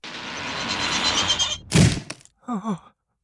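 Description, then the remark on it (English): In a children's story, Princess Jill opens a door: a steady rattling rush, then one heavy wooden thunk, followed by a brief pair of creaky, groaning squeals before silence. “Princess Jill goes to the door.”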